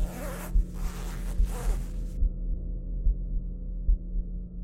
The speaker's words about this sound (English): A moment later, I heard the sound of the zipper in my tent. Someone was trying to open it.